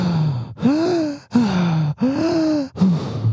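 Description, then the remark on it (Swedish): Loud, exaggerated heavy breathing: about five long, rhythmic voiced breaths in quick succession, each a strained, groaning huff, with no words spoken. “Ska du köra lite andningsteknik för lyssnarna?”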